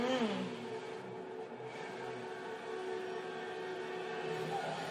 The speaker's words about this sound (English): Drag racing.